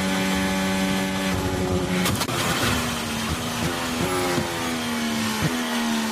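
The high-revving engine of Carlos Sainz's Formula 1 car drones steadily at the Las Vegas Formula 1 race. It is interrupted by a sharp, loud bang as the car strikes a loose manhole cover on the circuit, which wrecks the car. The engine then carries on with a few faint knocks.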